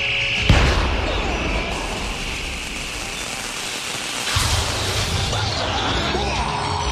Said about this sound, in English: Calculated force necessary to activate Terracon timer mechanism, 16 megahertz. Computing angle of fire, positioning laser cannon, fire!